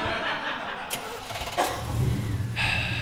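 A Mountie's truck engine cranks with a couple of sharp clicks, then catches and settles into a steady low rumble, moderately loud.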